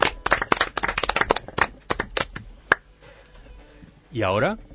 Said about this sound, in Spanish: ¿Los saludamos? Va el primer aplauso, que es para todos ellos.